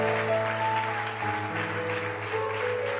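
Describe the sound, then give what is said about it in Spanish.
A church audience applauds for Christ in a steady, dense wash of clapping that holds even throughout, with sustained low musical tones playing underneath. “Del aplauso a Cristo.”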